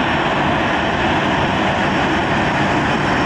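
A passenger airliner on a flight from Wuhan, China, to Kyiv, Ukraine, with 73 people aboard, its engines roaring steadily and loudly, a dense, unbroken rushing drone with no voices and no change in pitch across the few seconds.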